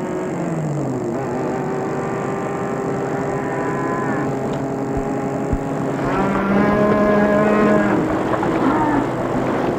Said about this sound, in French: Bloqués comme les autres automobilistes par des milliers de vaches sur l'autoroute.